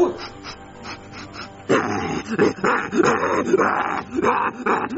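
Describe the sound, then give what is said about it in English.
A dog in a neighborhood snarls and barks in rough, repeated bursts, loud, with the noise growing more frantic after a quieter opening second or so. “Why is there even a rabid dog in this neighborhood?”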